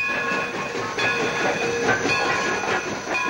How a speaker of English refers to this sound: Later, May strides in high heels through a weedy lot and waits as a smoking freight engine passes by.